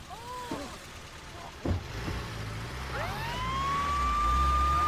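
An ambulance siren wails in short swooping bursts as the ambulance drives off, then rises into a long sustained tone over a growing rumble of vehicle engine and traffic, with no one speaking.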